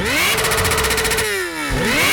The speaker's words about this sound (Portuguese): Ele não pode ouvir o ronco de uma moto que a cabeça dele dói.